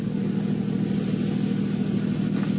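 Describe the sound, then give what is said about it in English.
A taxi cab's engine runs with a steady, low droning hum throughout as the cab circles back at the next corner, holding an even level with no clear rise in pitch. No one speaks. “Oh, I'm sorry. I'll circle back on the next corner.”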